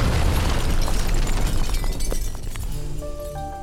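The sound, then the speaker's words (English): A car explosion from five sticks of dynamite placed in the trunk, set off as Gentry got into the car to run an errand: a loud, roaring blast with deep rumble and crackling debris that holds for a few seconds, then eases as a steady ringing tone emerges near the end. “One fateful evening, Gentry got into his car to run an errand, only for the vehicle to explode around him.”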